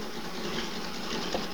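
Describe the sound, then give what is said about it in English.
A steady mechanical whirring runs without pause, a sewing machine stitching along at a constant pace, moderately loud, with no voices. “Looking up from her sewing machine, Ellen sees John standing in the doorway.”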